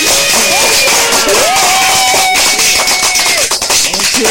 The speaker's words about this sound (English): Hold on, don't move, because you got to get a clap for that.